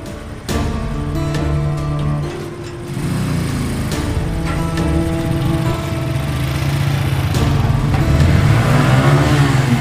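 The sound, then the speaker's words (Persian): A motorcycle engine runs steadily, its low harmonic drone rising in pitch and loudness as it is ridden into an old house with a pool in the middle and flowers and trees around, and arrives, with no talking. “غلامرضا برادر بزرگ زری با عینک مشکی سوار موتور و رانندگی میکنه. با موتورش توی یه خونه قدیمی میاد.”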